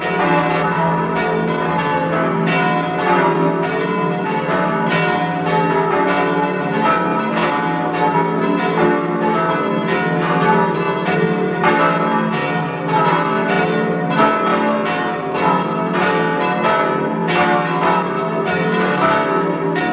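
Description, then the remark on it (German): The bells of the parish church of St. Margarethen in Buch bei Jenbach, Tyrol, ring together in a full, continuous peal, their overlapping strikes and long humming tones sounding steady and loud throughout with no voices present. “Sie hören die Glocken der Pfarrkirche St. Margarethen in Buch bei Jenbach in Tirol.”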